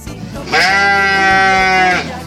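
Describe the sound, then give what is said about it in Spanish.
A single sustained sheep bleat, loud, lasting about a second and a half with a wavering, nasal tone before it cuts off. “Llega la oveja, va entrando. Buen día, ovejita hermosa.”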